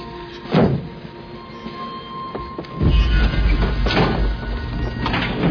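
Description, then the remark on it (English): A heavy door slides open with a sharp clunk, followed by a loud low rumble and further metallic thumps over steady train-like mechanical noise. No one speaks. “Kill him, then open the door.”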